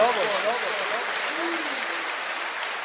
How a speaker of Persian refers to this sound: شب دست پایین دست زدن نیست، باید دست بالا باشه.